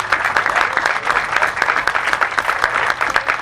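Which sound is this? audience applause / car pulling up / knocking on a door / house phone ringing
audience applause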